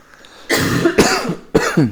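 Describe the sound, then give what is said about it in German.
Two people cough, three loud, harsh bursts in quick succession with brief voiced tails, one cough overlapping the next as if trading back and forth. “Wir husten schon im Duett.”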